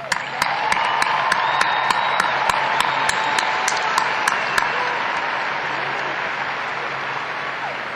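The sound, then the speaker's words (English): Sustained audience applause for the mothers in the audience at a Mother's Day commencement ceremony: a dense wash of many hands clapping, with a few sharp, evenly spaced claps standing out over the first half before the steady applause continues and eases slightly. “Let me extend a very special welcome to all the mothers in the audience today, and please show your gratitude with applause.”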